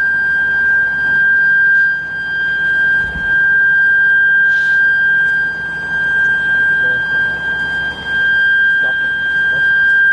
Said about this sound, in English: Sirens probably stopped.